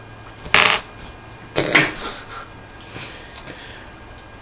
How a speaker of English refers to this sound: It's kind of hard to do that with a coin. No, you take two coins and rub them together.